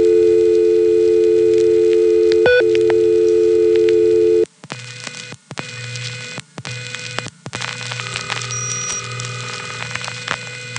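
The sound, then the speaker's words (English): A loud, steady telephone ring tone buzzes over a phone line for several seconds as another 660 user rings his phone, then cuts off abruptly with a click as he picks it up, leaving hissy line noise and scattered clicks. “Hey, that was another 660 user ringing his phone and then picking it up.”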